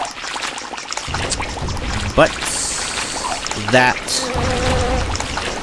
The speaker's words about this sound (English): that is a waterfall, so we have to just press one of the left or right arrow keys rapidly to escape it.